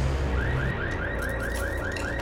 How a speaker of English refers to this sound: Kay goes around to a 4x4 on the other side, opens the driver's door and sets off an alarm.